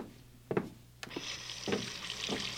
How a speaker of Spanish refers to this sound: El ruido del agua al caer, su frialdad al bañarte el rostro, te sumergen de pronto en los recuerdos.